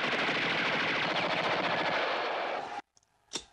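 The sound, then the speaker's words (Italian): A loud, sustained burst of rapid machine gun fire rattles continuously for nearly three seconds, then cuts off abruptly, followed by a brief sharp clatter. “Fuoco!”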